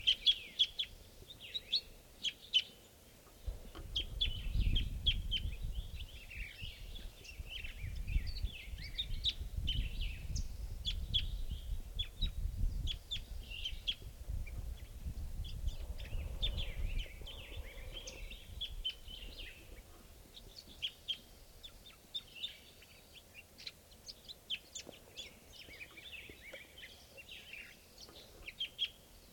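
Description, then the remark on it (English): A crossbill calls a lot from the treetops at 7:54 with rapid, high-pitched chirps repeating throughout, over a steady low rumble that swells in the first half. No one speaks. “So we're calling at 7:54 now, and there's a bird crossbill calling a lot from the treetops here.”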